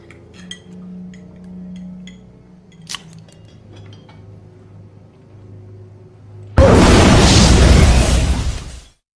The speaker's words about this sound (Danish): Før braget, der dræber familien, ja, der har faderen udløst to håndgranater under spisebordet.